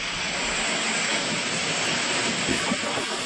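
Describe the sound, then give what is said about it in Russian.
A Lamborghini ploughing through a river ford where the road has turned into a river, a loud, steady rushing roar of churned water and engine noise that holds constant for a few seconds with no voices. “Вот слышите, это звук. Мы через реку едем. Ну, такой брод.”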